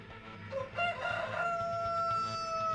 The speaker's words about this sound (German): Als Petrus zum dritten Mal sagt, dass er Jesus nicht kennt, kräht der Hahn.